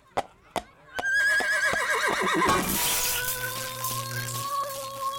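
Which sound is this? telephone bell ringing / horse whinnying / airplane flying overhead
horse whinnying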